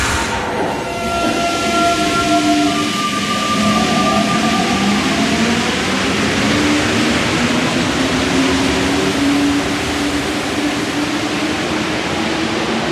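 A metro train rumbles loudly and steadily through an underground station, its motors whining in shifting tones over a constant roar of wheels and air, with no one speaking.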